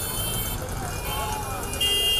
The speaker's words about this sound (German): In den meisten indischen Städten hat es sich durchgesetzt, dass man ständig hupt. Aber warum machen Autos eigentlich solche nervigen Geräusche, wenn die FahrerInnen mal wieder ungeduldig werden?